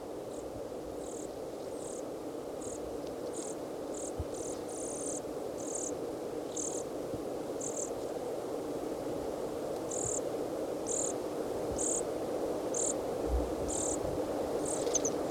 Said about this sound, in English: juvenile dorsalis junco, and at least one adult. Juvenile is making sort of a buzzy call as it follows the adult around and begs from it.